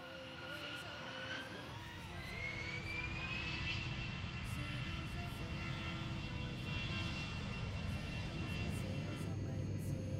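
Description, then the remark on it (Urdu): A steady, loud airplane engine roar fills the whole stretch, with a rising whine sweeping upward early on and a dense low rumble underneath. “آپ کے لیے دوسرا سوال ہوگا, لیکن جس کنٹری سے آپ چاہیں گے, اپنے جہاز کو لینڈ کروائیے اور ہم سے سوال لیجیے.”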